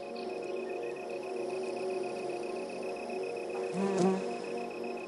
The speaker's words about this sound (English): By the way, we posted some pictures online, so if you want to see producer Mark Rickers valiantly sticking a microphone in a buzzing hive, you can find them at ttbook.org.